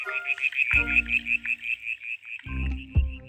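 A brown tree frog calls with a steady, rapidly pulsing high trill that runs throughout, joined by two bursts of lower, rasping croaks. No one speaks.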